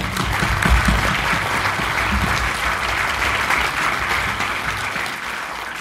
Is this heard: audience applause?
yes